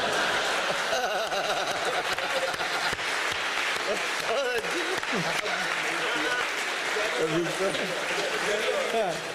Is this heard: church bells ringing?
no